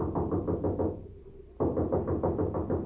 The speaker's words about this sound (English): Here's a knock that ought to bring out the militia.